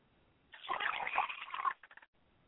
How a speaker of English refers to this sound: I pour this libation to acknowledge O Bakala, my father's spirit, and I say Ashe.